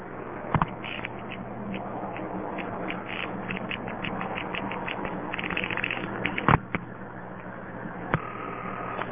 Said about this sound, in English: most calls to Seattle go through two tandems, the second one of which lets you hear the panel pulsing and also step pulsing beautifully.